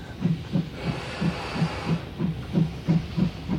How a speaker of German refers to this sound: Opa sah verwundert, wie ein Zug durch die Türe fuhr.